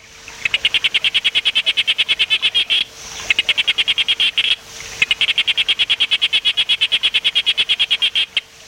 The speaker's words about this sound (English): And we have a recording, I think, of one of the frogs that you're going to be looking for. This is the sharp-snouted day frog. Let's listen to a bit of that.